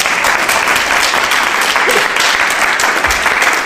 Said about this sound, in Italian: E allora un applauso.